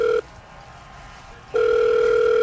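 phone call dialing tone

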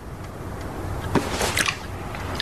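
chewing food

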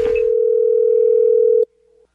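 telephone dial tone

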